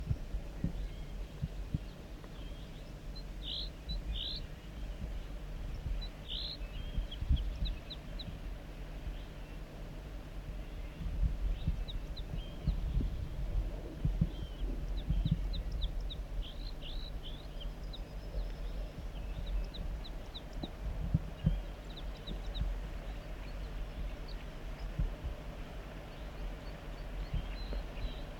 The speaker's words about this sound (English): Start recording vocalizations, song of the wild banded male.